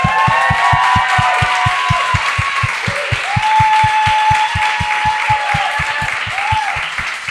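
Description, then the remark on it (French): An audience welcoming guests Brian Piton and Cathy Gauthier claps in a steady, driving rhythm of about four beats per second, loud and sustained, with whistles and cheering voices rising above the beat. “Les deux, mesdames et messieurs, une bonne main d'applaudissements pour Brian Piton et Cathy Gauthier.”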